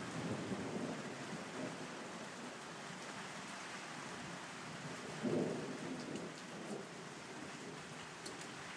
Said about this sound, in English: We're getting some thunder.